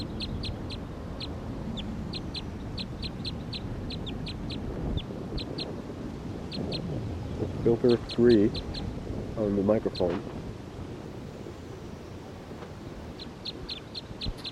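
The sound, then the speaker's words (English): A wild bird perched on a hose calls again and again in short, high-pitched chirps, often in quick pairs or trios, clear and steady throughout, while a person speaks briefly partway through. “The bird's getting loud, very loud.”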